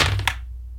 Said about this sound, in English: Rolling plus iron. Please be kind, oh dice.